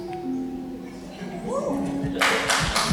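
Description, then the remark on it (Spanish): Near the end of a preacher's talk at a church, clapping breaks out for a female pastor: a dense, crackling burst of applause that follows the talking and continues through the final second. “ahí aplaude a alguna fanática de ella, no de mí.”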